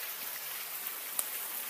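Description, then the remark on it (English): Steady, dense hiss of heavy rain pouring down outdoors onto a very muddy lawn in chilly weather, with a few sharper drips and splashes standing out, filling the whole space evenly at a constant level. “We are outside. And it is really raining.”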